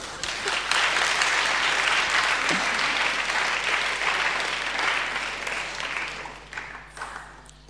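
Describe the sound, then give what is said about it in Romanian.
An audience applauds with dense, steady clapping that holds loud for several seconds, then thins out and fades toward the end. “Puteți să aplaudați.”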